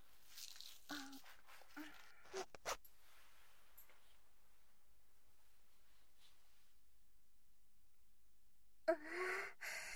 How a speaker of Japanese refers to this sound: じゃあ脱がせるから座って。ジッパー口で下ろすね。